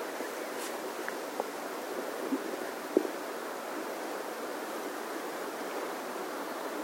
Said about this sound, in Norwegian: Kjenn hvordan dere lytter til vannet og havet.